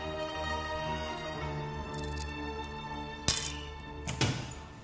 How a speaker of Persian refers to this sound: مهد اولیا پشت میز صدر اعظم نشسته و سکه ها رو وزن میکنه